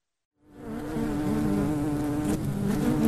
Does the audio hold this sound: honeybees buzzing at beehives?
yes